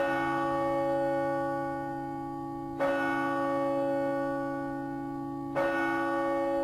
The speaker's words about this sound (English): Those are church bells, and the ringing of those bells, linked to the Catholic Angelus prayer, has long been a reminder of the devout religious beliefs of a nation where 85% of citizens self-identify as Roman Catholic.